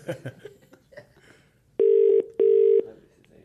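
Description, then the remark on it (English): Brief chatter and a snicker, then a phone ringing out on the line: one loud, steady double-burr ring tone, two short even pulses close together. “Well, who are we ringing him from?”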